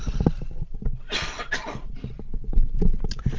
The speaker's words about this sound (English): Just going to pause here for a moment to have a little cough.